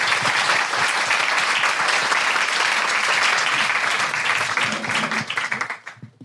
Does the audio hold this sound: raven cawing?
no